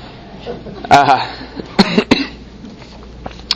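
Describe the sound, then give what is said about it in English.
A wheezing cough: one rough, raspy burst with a whistling, strained edge, followed by two shorter, sharp coughs, then a quiet pause. No voices. “my apologies to those who may be listening at home on the wheezing here.”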